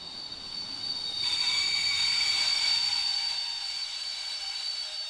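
train

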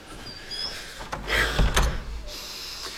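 door being shut

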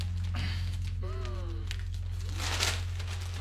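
newspaper pages rustling

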